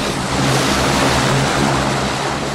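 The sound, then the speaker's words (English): A two-propeller turboprop airplane bound for Boston roars loudly as the pilot starts the engine, a dense, steady, deafening blast of noise with a low droning hum underneath, holding constant throughout with no voices. “The pilot climbs aboard, starts the engine, and sends a deafening noise through the air.”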